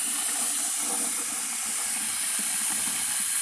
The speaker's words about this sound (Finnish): Ja näin, vesi on valunnut pastakattilan täyteen.